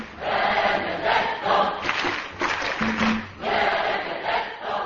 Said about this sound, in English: They cheered, clapped, and called out Benedict's name, many times interrupting a long speech.